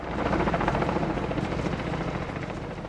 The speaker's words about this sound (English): Not much but the sound of a helicopter there, and sometimes silence tells a story.